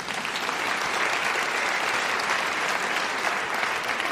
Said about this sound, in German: Vielen Dank und Sie müssen jetzt mit mir klatschen, ich klatsche alleine.